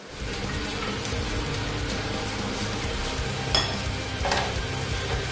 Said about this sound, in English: So I'm going to pour in our tomato.